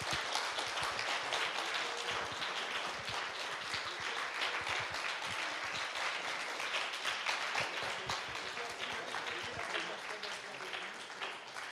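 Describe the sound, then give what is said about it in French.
Sustained audience applause, a dense crackle of many hands clapping at a steady, fairly loud level for the whole stretch, with a faint murmur of voices underneath. “Et si vous aviez la gentillesse de les applaudir, ça me ferait plaisir.”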